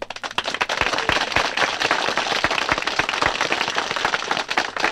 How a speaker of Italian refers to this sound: Gli applausi provengono dal folto pubblico accalcato sotto la pergola ad una frasca, dispensatrice dei gagliardi vini di Spessa.